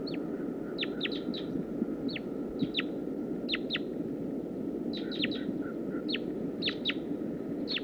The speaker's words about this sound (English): Start recording wild bird. Wild female.